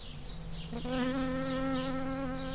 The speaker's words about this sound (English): I wouldn't say I saw him get stung, but he definitely pounced on a bee that was buzzing around, and then he was licking his paw.